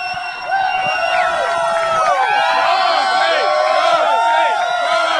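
A loud, dense crowd screaming and cheering continuously, with many overlapping high-pitched shrieks and whoops rising and falling throughout.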